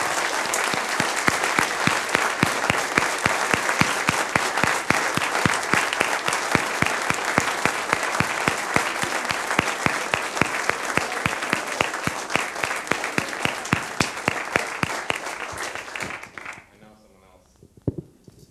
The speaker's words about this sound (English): And I would like to have the entire admin team come up forward, please. And everybody else who was involved, and another round of applause.